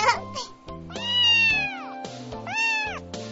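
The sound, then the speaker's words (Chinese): An orange kitten meows, two drawn-out, rising-and-falling cries with a few shorter mews, loud and clear with no talking. “爷爷，你看，这只小橘猫真厉害，一下子就抓到猫玩具，真像只小老虎呢。”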